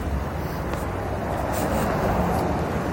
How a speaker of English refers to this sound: All the cars are approaching me, but they're all slowing down, so that's cool. Just, can you imagine? All the cars in the entire intersection just start driving towards me.